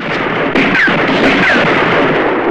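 Rapid gunfire in a shootout, with Ramon shooting at a Baxter man in lightning-quick succession, crackles in a loud, dense barrage, shots blurring together into a continuous roar with a sharp jump in intensity partway through and a few brief whining streaks.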